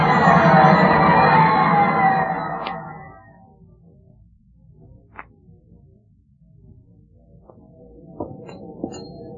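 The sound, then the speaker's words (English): A boxing crowd roars and yells loudly for a couple of seconds as the boxer Bombo goes down in another knockout for the Red Terror, then the noise drops away to a low, rumbling murmur broken by a few short, sharp knocks. “Don't get lost in this crowd.”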